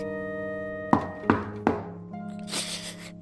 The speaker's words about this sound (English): She wept on her pillow an hour or more, till by and by came a soft knock on her door.